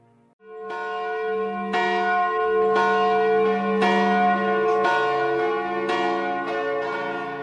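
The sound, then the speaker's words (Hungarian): Church bells ring out in a steady Easter peal, struck about once a second, each rich clang overlapping the lingering hum of the last. They sound full, with no voices. “Zúgjatok húsvéti áldott harangok, mert köztünk van a dicső feltámadott.”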